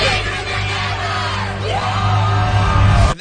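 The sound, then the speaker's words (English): A large crowd at American Idol screams and cheers together, a loud, continuous roar of many voices that swells and holds steady for a few seconds, as if shouting a chant in unison. “They have a lot of people screaming in the crowd.”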